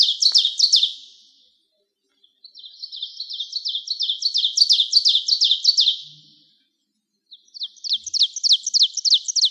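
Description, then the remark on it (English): An ovenbird sings three loud, ringing bursts of rapidly repeated two-note phrases, each series building in volume, with short silent pauses between them and no other sounds. “Ovenbirds, another warbler, return early too. They are extremely hard to see, but almost impossible to ignore in any Minnesota wooded area.”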